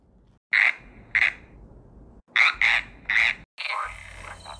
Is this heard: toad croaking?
yes